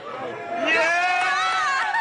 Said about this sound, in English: You can hear students at the school cheering.